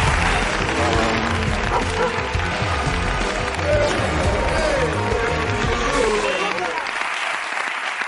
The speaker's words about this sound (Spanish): Vale, pues aplauso genérico para Jorge Ponce